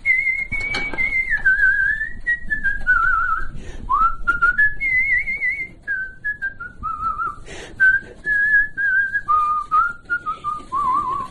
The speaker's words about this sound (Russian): С детства свистел, так все и насвистываю. Сейчас ведь вот тоже все соседи смотрят. Старое все что-то насвистывает, ходит. А у меня само собой получается. Все хожу и все насвистываю что-нибудь. Какую-нибудь песню вспомню, я насвистываю.